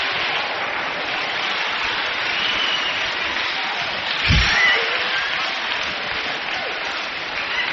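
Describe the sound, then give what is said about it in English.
A choir clapping their hands together, a dense, steady wash of claps that keeps up evenly for several seconds with no one speaking over it. “Clap your hands, choir.”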